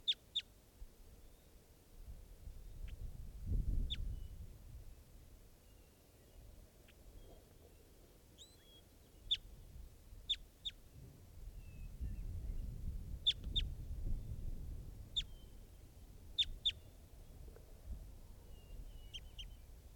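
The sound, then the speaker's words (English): An adult male type 2 bird gives short, sharp, high-pitched chip calls, about a dozen spaced irregularly, some in quick pairs, over a low rumbling background. No one speaks. “That's the bird.”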